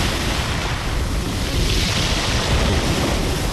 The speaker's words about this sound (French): Ce jour-là, pas question de les sortir pour pêcher. Vagues, rafales de vent, avec leurs 9 mètres d'envergure, ces petites coques en bois ne peuvent pas résister aux éléments déchirés.